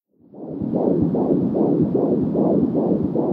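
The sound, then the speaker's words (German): A rapid, steady heartbeat of an unborn child as picked up by a Doppler monitor: rhythmic whooshing pulses, about three per second, loud, with no voices. “Herztöne eines ungeborenen Kindes.”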